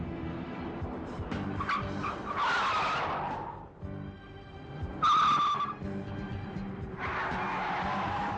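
A car engine roars steadily while tires screech in three sharp, loud bursts, as if the vehicle is skidding through fast turns at speed.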